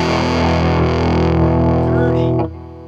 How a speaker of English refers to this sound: That's dirty, dirty fuzz box. Some Earthquaker box.